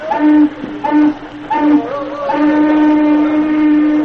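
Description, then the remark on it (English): A steamboat warning whistle sounds three short, loud blasts followed by one long, steady, sustained blast, with a reedy, low-pitched tone. “Better give him a warning whistle.”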